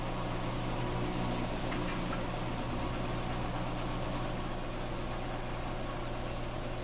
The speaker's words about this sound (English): This part of the spin cycle sounds smoother than the last one, so perhaps it was able to balance the clothing. I should point out that it wasn't horribly out of balance. The machine wasn't exactly shaking.